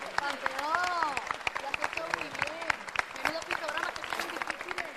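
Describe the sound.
Audience applause with many overlapping claps in a steady, dense patter, accompanied by cheering voices and whoops rising and falling over the clapping throughout.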